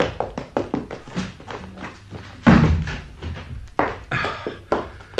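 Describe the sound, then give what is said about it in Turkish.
A door is handled and pulled open, with a quick series of sharp taps followed by a heavier thud near the middle and softer knocks and rustles afterward, fairly loud. “Mike, çabuk kapıyı aç!”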